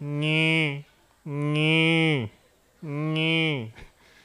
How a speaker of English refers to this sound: Cows are a nice, interesting animal. Of course, cows have calves.